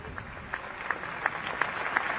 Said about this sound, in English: The people applaud, indicating their gratitude to the late Pope John Paul II.